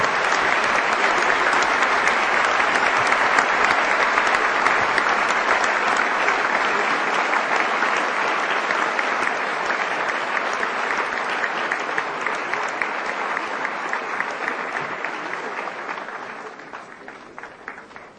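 Sustained applause from a large audience for a panel of speakers, a dense, steady clatter of many hands clapping for about fifteen seconds before gradually thinning and fading out. No one speaks over it.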